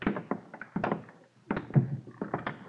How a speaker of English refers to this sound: Open the door.